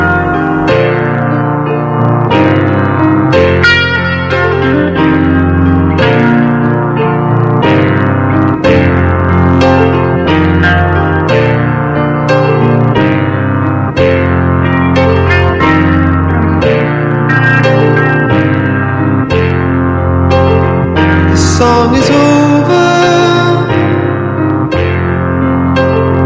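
A rock song plays loud and steady, with full-band instruments, piano-like chords and regular drum hits driving a steady beat. There is no singing or talking in this passage.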